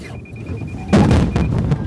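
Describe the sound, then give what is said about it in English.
A rapid high-pitched electronic beeping collision alarm from the onboard radar of a Lexus 600 gas-electric hybrid, followed by a sudden loud crunching impact with thuds and rustling as the car plows into a wall of cardboard boxes during a safety demonstration, the beeps briefly continuing. “Just before we crashed into that wall of cardboard boxes, an alarm went off.”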